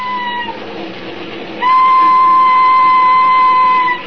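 A train in London rolls along with a steady rumbling clatter, then a sustained, high, whistle-like tone swells in over the noise, growing louder and holding until the end.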